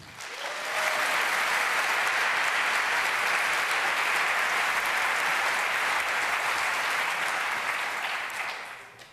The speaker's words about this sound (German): Und ich bitte um einen herzlichen Applaus um unsere beiden Expeditionsleiter